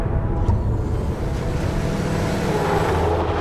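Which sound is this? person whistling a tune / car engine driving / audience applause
car engine driving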